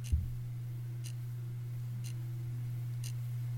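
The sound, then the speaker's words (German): A Braun analog alarm clock ticks steadily, about once per second, its soft crisp ticks sitting over a constant low electrical hum. “Hat ja immer das iPhone als Wecker oder Smartphone, haben ganz viele als Wecker, aber es ist alles nachts aus und dafür ein schöner Braunwecker und der tickt.”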